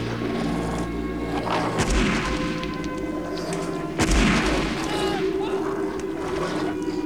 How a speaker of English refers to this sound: Skunkers run off after the wolves, and Alex and Jack stand listening to the shots in the distance.